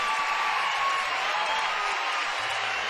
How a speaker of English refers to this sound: round of applause